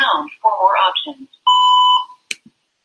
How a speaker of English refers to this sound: You have reached mailbox number 9. So that's a voicemail. We're going to drop a voicemail automatically. Once I hear the beep, I'll drop the voicemail and move on to next one.